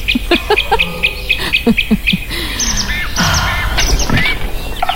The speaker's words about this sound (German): So, wir gehen in den Wald. Es riecht nach Moos, nach Erde. Das Käuzchen ruft.